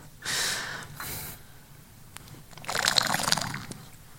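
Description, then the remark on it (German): Quiet sipping of water: two breathy intakes, then a stretch of faint wet slurping and swallowing sounds, with no talking. “Mal einen Schluck Wasser.”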